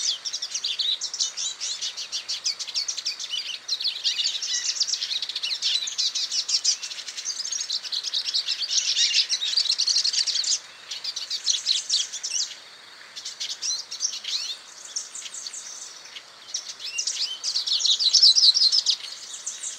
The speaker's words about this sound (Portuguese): E fechando essa lista, o pintassilgo.